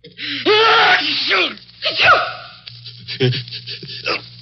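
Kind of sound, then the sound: human body sound, sneeze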